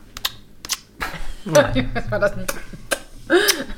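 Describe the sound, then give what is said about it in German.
Several sharp, irregular smacks of a hand hitting a cheek while wet kissing clicks are made, spaced unevenly, with brief voiced murmurs and hums of a person mixed in between them; passed off as a 'Hodenklatscher'. “Aber gut, wir lassen die Leute einfach mal an dem glauben, dass dieses auf die Wange hauen und dabei Kussgeräusche zu machen, dass das ein Hodenklatscher war.”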